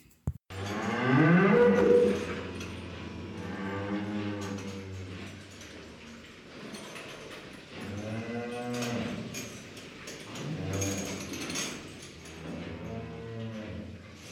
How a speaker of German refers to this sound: Marcel lebt auf einem Bauernhof und er ist eine Kuh. Er ist eine sehr besondere Kuh.